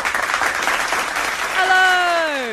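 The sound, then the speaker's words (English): A dense round of applause from a seated audience at a ticketed event at Across the Park, welcoming sports activist Jamie Fuller, fills the first second and a half, then a bright, sliding tone sweeps downward over the fading clapping. “I'm just overjoyed with the round of applause by all those people sitting out there in the good seats.”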